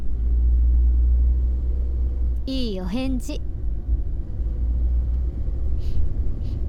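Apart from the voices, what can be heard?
car interior engine rumble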